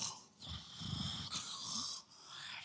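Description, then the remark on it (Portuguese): A voice imitates loud, rasping snores, a couple of rough drawn-out breaths, with a steady hiss of background noise and no speech. “O miserável até ronca mais forte, mas não levantava para buscar água para você.”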